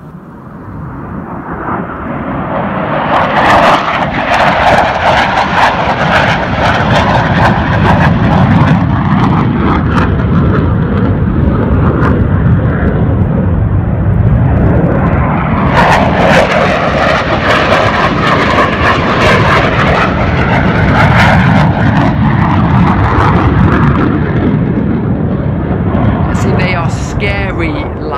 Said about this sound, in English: I don't know if you've ever seen one of our military planes flying over the lakes. They often do, don't they? Here's some footage of what it's like if you haven't.